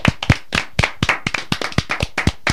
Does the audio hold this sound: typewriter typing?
no